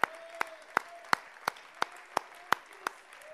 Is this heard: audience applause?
yes